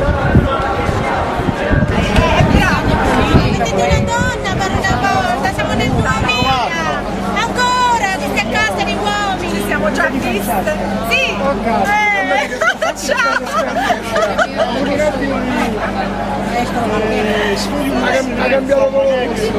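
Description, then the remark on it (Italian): A crowd of demonstrators behind security barriers near Montecitorio fills the scene with loud, continuous hubbub, many voices overlapping without pause, while a steady low engine-like hum runs underneath after the first few seconds. “Dietro la piazza, dietro apposite diciamo, presidi di sicurezza, stabili peraltro, c'è la folla che manifesta.”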